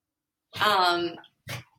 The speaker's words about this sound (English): Sorry if you can hear my dog.